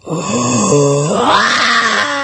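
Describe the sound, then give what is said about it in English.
A single voice imitates the delayed laughter of a roaring stadium crowd that follows a joke: a sustained, loud, growling vocal rumble that swells into a breathy, hissing roar midway and holds for about two seconds. “You do the joke and then you hear the laughs like this.”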